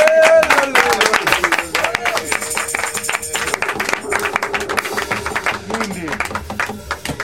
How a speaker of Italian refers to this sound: Credo, io farei anche un grandissimo applauso.